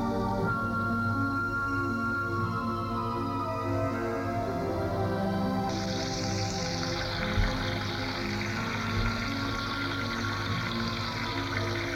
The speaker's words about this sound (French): Charles lui donne le gant. Galien le prend et ouvre le robinet de l'eau.